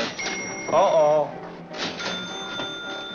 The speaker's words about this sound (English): Every time you hear a bell rings, it means that some angel's just got his wings.